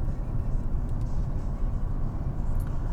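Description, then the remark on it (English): A scooter's engine hums as a steady, low rumble at moderate volume, holding fairly even throughout, with no voices, as its rider runs through a red light on an early Sunday morning. “And that scooter, that guy just ran right through a red light.”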